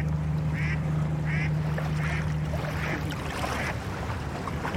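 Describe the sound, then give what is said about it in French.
A very flat river barge carrying sand, with a small white flag at the front, passes with a steady low engine drone, fading out partway, over a constant wash of waves, with a regular series of duck quacks. “Il y a un bateau là qui passe, une péniche, qui a l'air de transporter du sable, vraiment très plate.”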